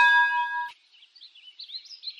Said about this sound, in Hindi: Bell यानी घंटी।